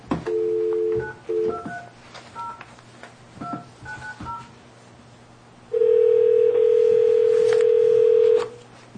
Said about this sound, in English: All right, then I'm going to go ahead and, since I have the phone number and that's what we have, call him. I'm going to call him, so. Ready?